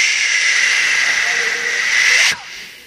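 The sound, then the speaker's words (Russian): A serpent's hiss, standing for the serpent that came to Eve in the Garden of Eden in a sermon: one long, steady, sharp hiss held for a little over two seconds at an even loudness, then cut off abruptly, leaving a faint trailing hush. “Mäletate, kes tuli Eeva juurde Eedeni aias? Помните, кто пришел к Еве в Едемском саду?”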